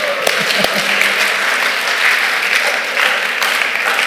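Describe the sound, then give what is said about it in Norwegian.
A crowd at the Bible school in Grimstad applauds former students, a dense wash of many hands clapping at an even, fairly loud level with a few sharper individual claps standing out. “Ja, en applaus for deg.”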